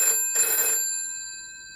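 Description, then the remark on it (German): A telephone bell rings in two short bursts in an office of the US Federal Aviation Administration on 24 May 1979, a bright metallic trill with a steady high tone lingering and fading afterward. Fairly loud, with no voices. “Büro bei der US-amerikanischen Federal Aviation Administration, also dem Äquivalent zum Luftfahrtbundesamt, klingelt das Telefon.”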